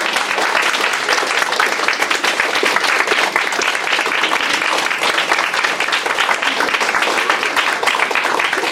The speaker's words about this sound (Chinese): 我们给我们伊玛内利再一次鼓掌一下，好不好？